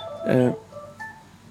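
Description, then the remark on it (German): A phone rings with a short, bright electronic melody that bursts out loudly for a moment and then trails off into fainter tones, with a low background murmur. “Jetzt das Telefon ist.”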